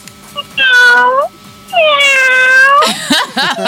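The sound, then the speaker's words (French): A person imitates a sick cat with two long, drawn-out, whining meows, the second longer and wavering, followed by a brief burst of voiced sound. “Fais-moi le bruit d'un chat malade”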